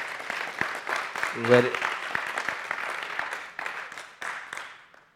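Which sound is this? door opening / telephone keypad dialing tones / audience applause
audience applause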